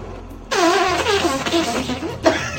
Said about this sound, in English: Get that fart. Get that juicy ass fart from my ass. Get in there and get that.